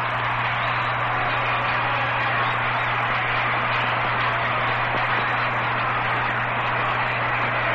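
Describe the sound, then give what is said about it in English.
A baseball stadium crowd roars as Musial comes to bat in the sixth inning, a steady, unbroken wash of noise for several seconds, with no announcer talking over it and a faint low hum underneath. “Listen to the crowd again.”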